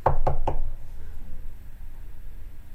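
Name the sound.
knocking on a door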